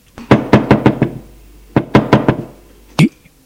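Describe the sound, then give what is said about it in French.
Knocking on a bedroom door: a quick run of five sharp knocks, a pause, then four more, followed by a single duller thud. Solid, fairly loud raps with no voices. “L'on frappe à la porte de sa chambre.”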